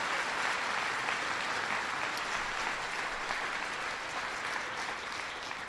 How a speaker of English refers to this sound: so I want to give them a big round of applause.